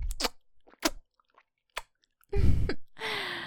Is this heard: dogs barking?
no